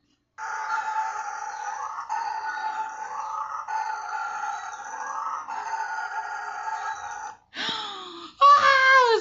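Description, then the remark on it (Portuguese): Howler monkeys roar at intruding people in loud, sustained rasping bursts, several long waves of harsh, droning sound back to back, ending with a few shorter, wavering calls that rise and fall in pitch. The roar could be heard up to 5 kilometres away. “No momento, eles não esperavam que fossem os bugios.”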